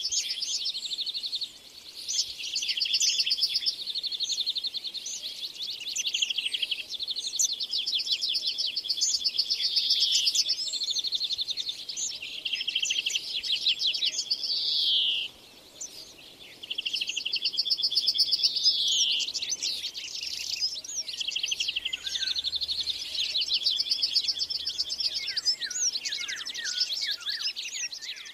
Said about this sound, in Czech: Druhá zvuková rekonstrukce, která právě doznívá, zachycuje ranní ptačí koncert z listnatého lesa na jihu Moravy v roce 2010. Ozývají se v ní pěnkavy, pěnice černohlavé, špačci, strnat obecný, žluvy, dlask i lejsek bělokrký.